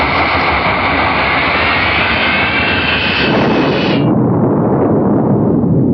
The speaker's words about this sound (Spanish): El piloto acciona los controles y el pequeño jet, con la fuerza impulsadora de sus dos turbinas, inicia el despegue rumbo a la isla de Escorpio